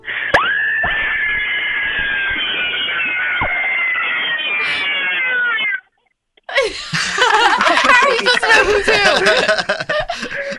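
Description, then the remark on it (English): Two women scream on cue, on a count of three, during a radio broadcast: a long, shrill, sustained scream lasting several seconds, then after a brief silence another loud burst of wavering, shrieking cries. “I want you both to scream.”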